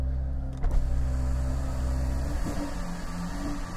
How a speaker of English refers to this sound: Can you hear the sound of that engine?